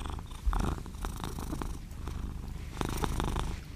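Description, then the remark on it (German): A 7-year-old male cat cuddled up against a person purrs, a steady low rumbling that swells and eases in rhythmic cycles with its breathing, with no voices. “Meine Katze hat sich gerade zu mir gekuschelt. Sie will auch mal was sagen.”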